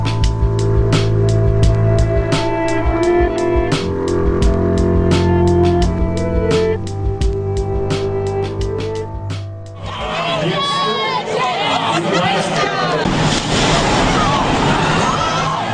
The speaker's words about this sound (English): Raw sound there from the finish line at the Boston Marathon last year. The first explosion there, and seconds later came another.